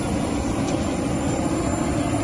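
A steady, loud roar of an airplane engine, broad and droning without pause, as a Spanish Military Emergencies Unit (UME) team of 56 soldiers and 4 dogs, sent to help search for earthquake survivors, gets off the aircraft; no voices stand out.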